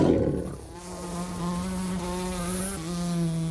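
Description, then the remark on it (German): A blowfly buzzes in a steady, low droning hum rich in overtones, starting after a brief rustle and running unbroken for about three seconds, its pitch wavering slightly near the end, while people wait for it to fly into a snap-trap plant. “So, und jetzt warten wir, dass der Brummer da reinfliegt, oder?”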